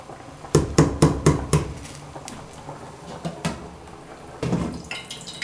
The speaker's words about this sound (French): Je vais remuer pour un temps pour que la tomate concentrée puisse bien prendre les oignons et les tomates.